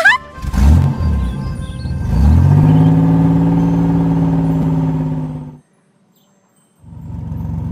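A bus engine revs up and hums steadily as it drives in, then cuts off abruptly as it stops at a bus stop; after a short silence the engine rumble starts again.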